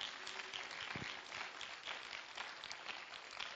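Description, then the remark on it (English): A church audience claps their hands in praise to God, a dense, steady wash of many overlapping claps at moderate volume with no clear individual rhythm, running the full length without talk. “Oh, let's clap our hands and give praise to Him again.”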